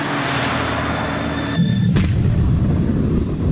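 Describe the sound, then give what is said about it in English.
A steady mechanical drone inside the submarine Kursk breaks into a sudden dull blast as an explosion takes place in the torpedo compartment at the front of the submarine, followed by a heavy, churning low rumble that continues to the end. No voices. “At this very moment, an explosion takes place in the front of the submarine in the torpedo compartment.”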